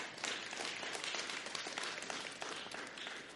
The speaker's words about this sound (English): So you can clap for them, man. That's a big deal.